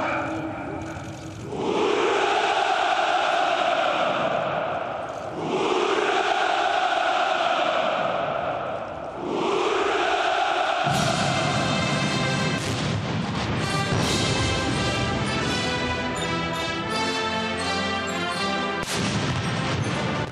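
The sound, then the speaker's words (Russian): Three loud artillery salute volleys fired from the Kremlin walls in Moscow come about every four seconds, each a heavy boom swelling into a long rumbling roar, before a brass band bursts into full, steady music. “Артиллерийские орудия дают салют от кремлевских стен.”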